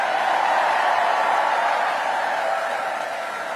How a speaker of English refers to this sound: Well, that was a lively campaign kickoff. A roaring crowd indeed.